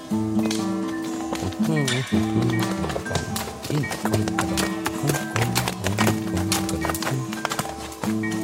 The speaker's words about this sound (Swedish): En man på häst rider förbi.